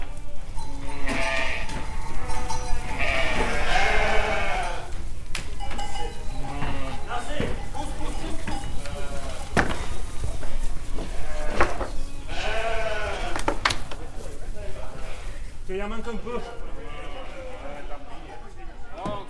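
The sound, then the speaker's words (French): Several sheep bleat repeatedly and loudly, their wavering cries overlapping, over a constant rumbling background of farm activity, as the sheep are being sheared. “On a mal au dos quand les brebis sont mauvaises, qu'on est obligé de forcer.”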